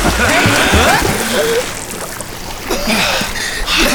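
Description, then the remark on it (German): Continuous splashing and churning water as people plunge in to swim with dolphins and move about, with excited voices calling over the noise. “Rein ins Wasser!”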